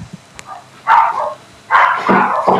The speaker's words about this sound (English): the dog walker came for the dogs and the dogs have gone nuts